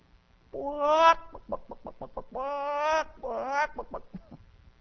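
Loud, close chicken clucking: a drawn-out squawk followed by a quick run of short clucks, then two more long squawks and a few trailing clucks, with no talking.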